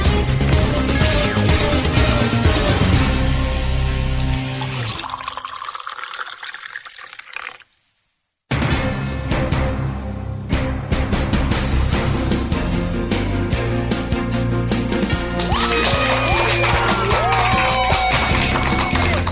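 A crowd applauds with a dense, steady patter of clapping that fades into a brief silence partway through, then bursts back at full loudness and continues, with faint tonal sounds mixed in.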